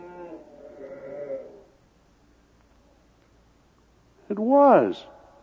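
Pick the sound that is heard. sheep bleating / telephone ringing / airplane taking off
sheep bleating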